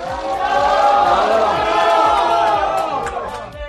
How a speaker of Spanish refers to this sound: Gritos para un futbolista que vuelve nuevamente a una ciudad que le vio crecer como jugador.